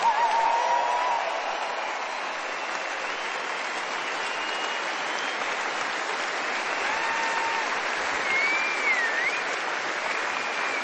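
Sustained audience applause as cast members, including Sascha Rotermund, are introduced, a dense, steady wash of clapping from a sizable crowd with a few faint whistles rising above it, no talking.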